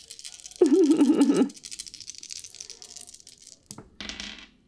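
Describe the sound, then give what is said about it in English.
A handful of dice rolled for damage in a tabletop role-playing game clatter and rattle onto a hard surface in a loud burst, with a brief low hum over it, then scattered clicks trail off before one more short clatter at the end. “Lots of dice falling.”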